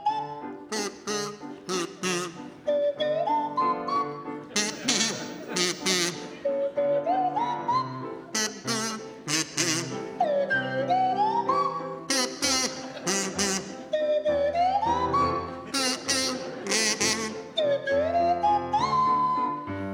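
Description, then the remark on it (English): A kazoo and a swanee whistle play a version of the Blue Danube waltz together, Miles Jupp on the kazoo and Lucy Porter on the swanee whistle, the whistle sliding up and down in pitch over a buzzy melody, fairly loud and continuous. “OK, Lucy and Miles, you can start, and I'd like you to provide us with a version of the Blue Danube to feature Miles Jupp on the kazoo and Lucy Porter on the Swanee whistle.”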